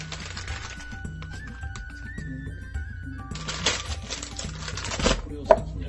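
Clatter of a frying pan being handled while preparing to boil 220 ml of water for noodles, with scattered knocks and light scraping and a sharp metallic clank near the end, over quiet background music.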